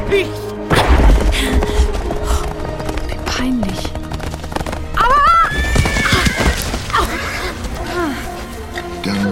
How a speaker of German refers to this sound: Stürzt ihr Pferd.